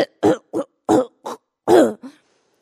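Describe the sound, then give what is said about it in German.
An older man seated opposite on a train coughs repeatedly in a quick, uneven fit of about six harsh, chesty bursts, the last one longest and followed by a short wheezy tail. There is no talking. “Aber irgendwie musste ich mich ablenken, denn ich saß gerade im Zug und der ältere Herr gegenüber hustete schon die ganze Zeit, so als ob er demnächst seine Lunge gebären würde.”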